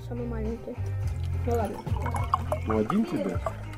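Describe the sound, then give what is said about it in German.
Juice, vodka and wine are poured into glasses, the gurgling pitch rising as each fills, with people talking in the background throughout. “Lilia gießt Getränke ein. Saft für Vasilisa, Wodka für ihren Mann, Wein für die Frauen.”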